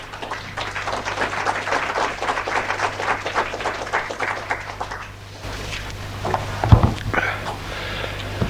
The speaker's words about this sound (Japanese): 皆様、盛大な拍手を持ってお迎えくださいませ。